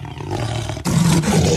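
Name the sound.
jaguar roaring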